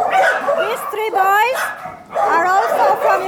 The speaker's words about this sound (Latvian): Kad ieejam, visi sāk riet. Suņi no Ukrainas pagaidām atrodas šeit, sadalīti mazās ģimenēs.